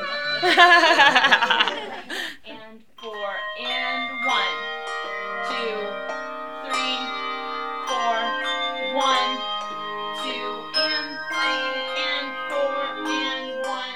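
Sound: handbell choir playing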